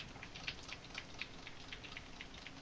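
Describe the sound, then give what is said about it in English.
Quiet typing on a computer keyboard: a steady stream of light, crisp key clicks over a constant soft hiss, with no one speaking. “Can you guys pick up my keyboard when I type?”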